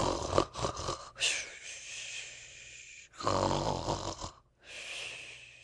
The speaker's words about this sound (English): Tommy Brock, who had opened one eye, shut it hastily. The snores continued.